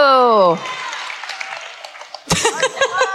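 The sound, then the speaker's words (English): A shouted voice cuts off into a burst of audience applause, a steady wash of clapping that softens before someone starts talking loudly over the tail of it. “Now applaud! You have to!”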